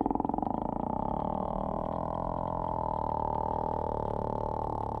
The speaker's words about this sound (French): Les cachalots émettent une grande variété de claquements. Ils sont passés maîtres dans l'art d'utiliser les sons, qui se propagent 5 fois mieux dans l'eau que dans l'air.